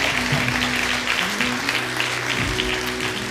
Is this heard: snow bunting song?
no